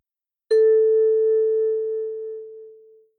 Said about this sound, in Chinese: 在每个听音示例结束时，你会听到这样的铃声。